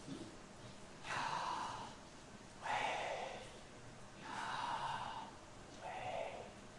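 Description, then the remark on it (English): Slow, deliberate breaths drawn in and let out, four airy rushes in an even rhythm with short pauses between them, fairly soft, with no talking. “There's an old Jewish tradition that the sound of God's name, Yahweh, is the sound of breathing.”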